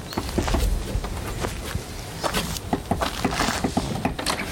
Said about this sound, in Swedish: Och vi bestämmer oss för att knacka på.